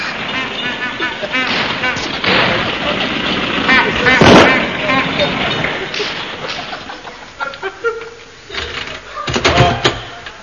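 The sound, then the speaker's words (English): A loud car engine, a horseless carriage driven by a chauffeur, clatters and chugs as it pulls up outside a door, with a sharp backfire-like bang partway through, then settles into an uneven, sputtering idle. “Is my horseless carriage ready? The chauffeur is pulling it here now.”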